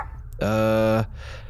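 A single loud, drawn-out dog bark rings out, steady and tonal for over half a second, then cuts off, leaving a faint breathy hiss afterward; the dog is aboard a space station.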